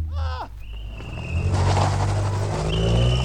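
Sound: car speeding away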